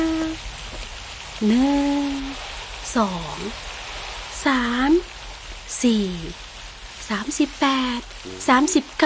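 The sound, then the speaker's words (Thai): Steady, heavy rain hisses continuously throughout, a dense wash of falling water, while a voice speaks in intermittent phrases over it. “ใช่แล้วพระเจ้าให้ฝนตกอย่างหนักแค่นั้นยังไม่พอพระเจ้ายังให้มีน้ำพุ่งขึ้นมาจากใต้ดินด้วยฝนตกอยู่นานกี่วันนะ”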